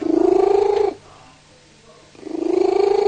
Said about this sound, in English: This is their pet cat, Smokey. Is that a cat? They got her 3 years ago from a rescue centre, and she's been purring ever since. And this cat never shuts up, even when she's eating. On this reading, she's made it up to 81 decibels.